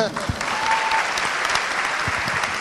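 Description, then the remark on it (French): An audience bursts into steady applause, a dense wash of many hands clapping loudly and continuously throughout, with no pause. “On peut l'applaudir.”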